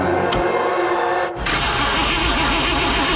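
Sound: car engine cranking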